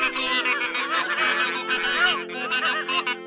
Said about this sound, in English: And soon all the geese were praying, one by one, and in duets, and in trios, and all together in a great chorus.